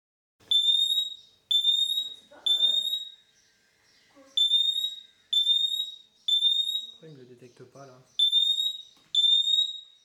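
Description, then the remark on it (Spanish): The built-in siren of a standalone smoke detector, rated at 85 decibels at 3 metres, sounds loud, piercing beeps with harmonics in repeated bursts of about three, with brief pauses between groups; a voice speaks quietly in the gaps. “Como podéis escuchar, la sirena incorporada es potente, emitiendo un sonido de 85 decibeles a 3 metros.”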